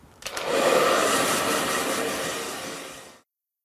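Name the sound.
hair dryer running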